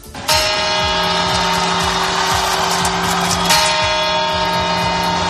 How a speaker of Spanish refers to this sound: Es el sonido de las campanadas de la Puerta del Sol desde un reloj cuya imagen todos tenemos guardada en la memoria infantil.